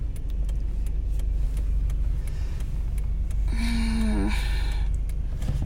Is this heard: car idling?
yes